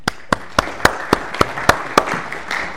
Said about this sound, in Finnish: annetaanpa tässä vaiheessa tuntiopettajille pienet aplodit.